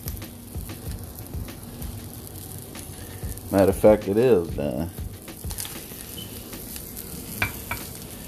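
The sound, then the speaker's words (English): Steady crackling and sizzling of an omelet frying in a pan runs throughout, with scraping stir sounds; a man speaks briefly in the middle over the continuous sizzle. “Hear that crackling?”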